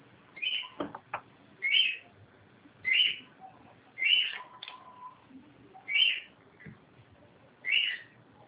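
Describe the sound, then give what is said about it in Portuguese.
A small bird chirps repeatedly in short, high bursts at a steady pace, about one call every second, clear over a quiet background with faint clicks. “Tem passarinho em casa?”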